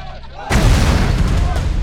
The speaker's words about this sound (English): Bolin lobbed his grenade. Grenade!